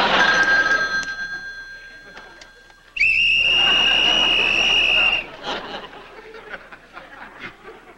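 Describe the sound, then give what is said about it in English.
A piercing, steady whistle blast blown loudly into a telephone at a creepy caller for about two seconds, preceded by fainter ringing tones and followed by soft chuckling and murmuring voices. “You probably whistled that creep to death.”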